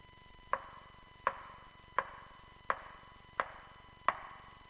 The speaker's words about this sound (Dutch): Maar je hoort het tikken van de staf.